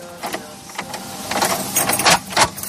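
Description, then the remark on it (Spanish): Stable door bolts sliding and clanking open at the stables of the Madrid Municipal Police Cavalry Squadron in the morning, a series of sharp metallic clacks and scrapes at an uneven rhythm, growing louder toward the end, with no voices. “Es el ruido de los cerrojos al abrir sus cuadras, sin duda el despertador más especial que tienen en esta unidad.”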